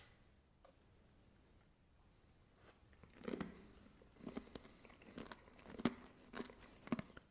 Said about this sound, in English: Nice orange flavor, and it's crunchy because of all those ingredients. You can eat it directly out of the pack.